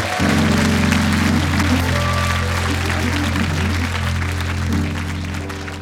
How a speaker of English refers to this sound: All right, now. Let's keep those applause going, ladies and gentlemen.